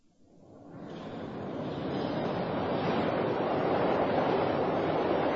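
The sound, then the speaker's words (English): A London Underground train pulls into the platform, its broad rushing roar swelling quickly from near silence to a loud, steady rumble that holds to the end. No one speaks. “Here she comes, right on time.”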